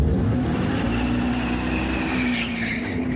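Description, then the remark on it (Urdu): A loud, continuous synthetic engine roar from an all-electric Dodge Charger car, holding a steady low droning pitch, with a brief high squeal rising near the end and no voices. “دا د you ماشین په څیر غږ لري او تر ډیره شاید د انجن په څیر رامي، خو په کومه وسیله چې د داج چارجر دا موټر چلیږي هغه د لوړ غږ او ځغاسته پخوانی قوي انجن نه دی.”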